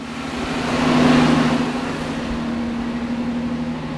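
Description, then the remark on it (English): A truck engine starts after its fuel pump was replaced, running with a steady, low mechanical drone that briefly swells louder in the first second before settling into an even idle. It is loud, with no voices. “Then the truck turned over and roared to life.”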